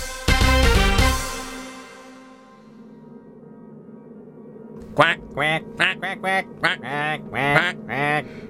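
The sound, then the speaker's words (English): After a brief loud, harsh burst at the start and a quiet pause, space ducks holding Dr. Stratagem prisoner break into a rapid run of about eight nasal quacks, loud and clustered together. “Stratagem, you stupid space ducks.”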